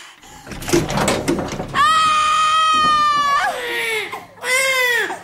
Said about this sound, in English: she's about to give birth.